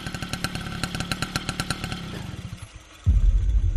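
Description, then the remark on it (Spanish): A motorcycle engine chugs with a steady, rapid putter, then fades briefly before a louder, deep rumble takes over near the end; no one speaks. “Ian siguió a ambas a bastante distancia montado en una moto”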